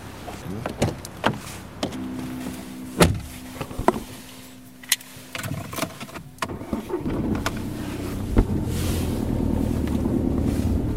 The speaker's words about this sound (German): Auto auf, einsteigen und losfahren.